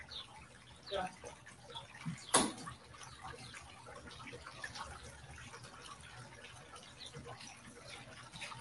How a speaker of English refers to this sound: Okay, that fountain back on. I don't know why he turned the fountain off for a storm.